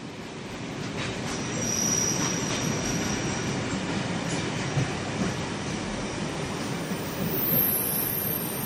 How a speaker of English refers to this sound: And where better to record a podcast than on a very noisy platform in a very busy station. In the second episode, you see us standing on the platform in Peckham Rye to talk about infrastructure and the city.